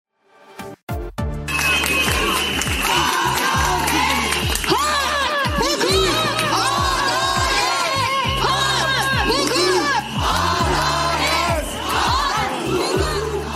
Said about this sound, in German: Ja, so klang das da in den letzten Wochen. Da sind in türkischen Städten hunderte Frauen auf die Straße gegangen und sie rufen Recht, Gesetz, Gerechtigkeit, fordern damit ein Ende der Gewalt gegen Frauen und vor allem ein Ende der Femizide.